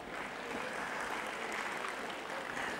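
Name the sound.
hand clapping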